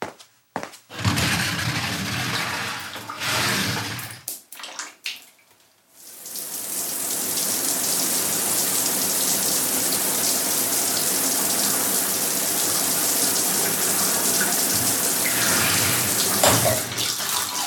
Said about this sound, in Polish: Kurczę, no wanny nie mam. Lecę napuścić wody do brodzika.